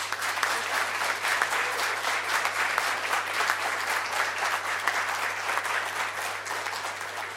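Sustained audience applause, a dense, steady crackle of many hands clapping at even loudness for several seconds, with no voices over it and a low hum underneath.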